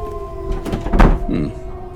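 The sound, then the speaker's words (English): A bolted, locked door is tried and rattled: a few wooden clunks and knocks bunch together in the middle, over a steady low hum, with no other sounds around them. “Your door seems to be bolted. How strange.”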